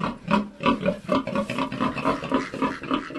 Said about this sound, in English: Inside a modified stall is a huge pig.